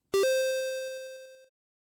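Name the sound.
beep tone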